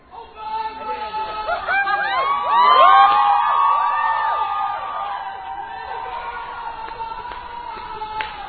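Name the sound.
crowd cheering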